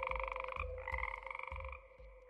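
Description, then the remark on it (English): A dense chorus of frogs in a swamp at night croaks steadily, with a sustained high trilling layer over low, rhythmic pulsing calls, fairly loud, no voices present. “Then I lie awake listening to the frogs in the swamp.”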